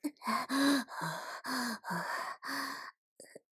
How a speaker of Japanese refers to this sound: 暑い。体温が上がってきて息遣いも荒く。